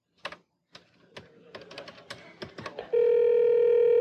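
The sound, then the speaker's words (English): A telephone being dialed to call Kramer: a quick, uneven run of about a dozen button presses, then a loud steady electronic tone starts and holds to the end. No one speaks. “Let me call Kramer and see if you can hear anything.”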